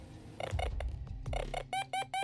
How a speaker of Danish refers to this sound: Hov, kan du høre det? Der er noget, der bipper. Ved du, hvor du kommer fra? Det er fra det, vi kalder en metaldetektor. Det er en lang stang, som du skal holde lodret ned mod jorden.